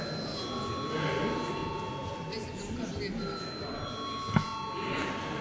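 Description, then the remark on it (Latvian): A parliament voting call bell, rung at the chair's request before a vote on a proposal, sounds as a steady, unbroken electric tone for several seconds, its high pitch holding level over a low murmur of voices. “Jā, papriekš mums jābalso par priekšlikumu, lūdzu zvanu.”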